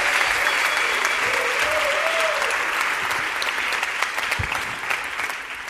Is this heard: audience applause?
yes